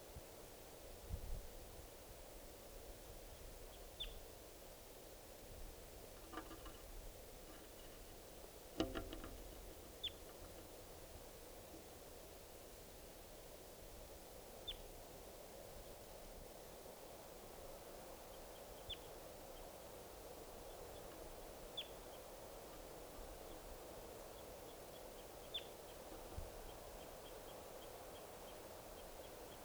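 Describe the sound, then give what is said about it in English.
Faint, high calls of wild birds come every few seconds over a steady hiss of rustling background noise, with one or two soft thumps. No one speaks. “These are the calls of the wild birds are coming down.”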